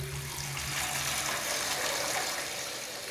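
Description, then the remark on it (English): Water gushes steadily from a tap, a continuous loud splashing rush that holds at an even level for the whole few seconds, with no voices. “I saw a massive hand turning off the waterfall with a giant tap.”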